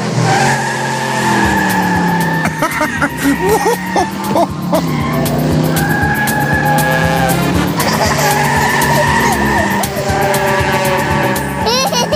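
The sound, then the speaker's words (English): An invisible toy car in the cartoon Pocoyo races with its tires skidding and squealing in long, loud, wavering screeches over a steady engine roar, repeating for several seconds. “An invisible car!”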